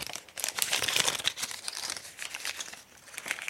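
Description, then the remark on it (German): Scissors cut open a colorfully printed test-kit package made of metal foil laminated with plastic, a dense, continuous crinkling and crackling that runs for a few seconds with small sharp snips and rustles, no voices. “Aufreißen kann ich das Ding nicht. Da muss ich mit der Schere ran und dann sehe ich auch warum.”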